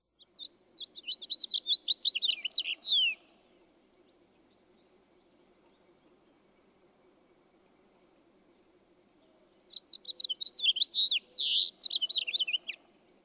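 A house finch sings two long, jumbled, bright warbling phrases, separated by several seconds of quiet with a faint low background hum.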